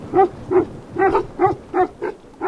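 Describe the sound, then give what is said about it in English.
Deep, booming barks from three Tibetan mastiffs at a small mud-walled shack on a bluff overlooking the river, in a steady run of about seven loud, rough calls, each brief and evenly spaced, with no talking over them. “Our destination for the evening, a small mud-walled shack on a bluff overlooking the river, where a trio of Tibetan mastiffs demand to know why we're here.”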